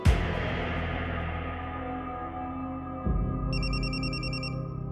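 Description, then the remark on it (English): A telephone rings with a rapid electronic trill in the last second or so, in a retelling of Pablo Escobar's phone call in Medellín, Colombia, on December 2nd, 1993, cutting in over a low, sustained droning music bed that swells after a sharp opening hit. “Pablo Escobar knew the phone call had gone on too long.”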